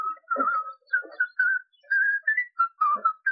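man whistling a tune

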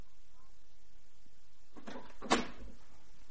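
door opening

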